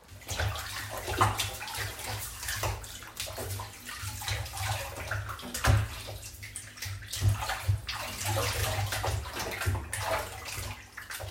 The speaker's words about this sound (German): Die Kinder jubeln. Ja! Sie ziehen sich alle Badesachen an und planschen ins Wasser.